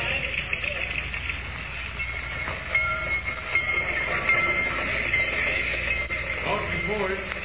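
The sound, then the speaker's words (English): A dirty train rolls steadily along the rails, arriving at Rocky Point, a loud, continuous rumble with rattling wheels and faint metallic squeals riding on top throughout. “Thank goodness we're here at last. I've never been on such a dirty train.”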